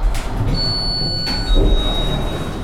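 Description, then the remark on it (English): An elevator door slides open with a steady high mechanical whine, a low rumble and a soft thud partway through. It sounds moderately loud, with no voices. “The elevator door opens.”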